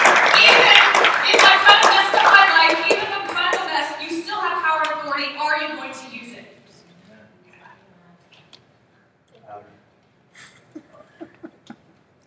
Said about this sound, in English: But he still gives you power and authority. Okay, can we just clap on that one? I have power and authority.